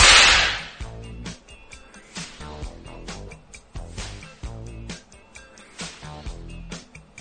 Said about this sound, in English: The best cracks for use on a short whip. Something I'm always asked about.